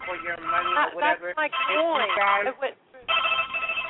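A phone rings with a melodic, warbling ringtone that plays loudly and continuously, breaks off briefly near the end, then starts up again.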